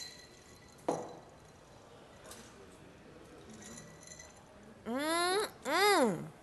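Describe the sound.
A single bright clink of glasses touching in a Mardi Gras toast with a king cake cocktail called the Night Tripper, with a faint lingering ring, followed a few seconds later by people speaking.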